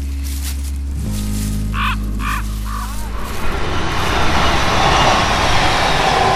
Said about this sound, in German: Hier ist sogar eine Eisenbahnstrecke. Hat man gehört, da ist gerade ein Zug vorbei.